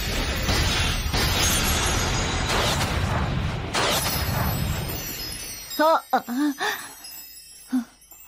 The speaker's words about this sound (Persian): برد آشیل متحد با پایان انفجاری، نتیجه 2-0. یه انفجار، یه انفجار معرکه.